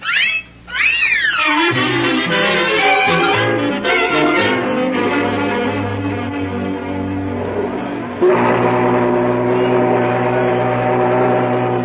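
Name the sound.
riverboat steam whistle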